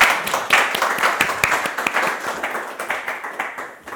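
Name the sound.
audience applause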